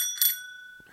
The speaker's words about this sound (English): I'm just realizing now I could also do a sound effect because I have a little bell here. Here we go. Editing.